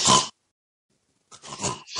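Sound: imitated snoring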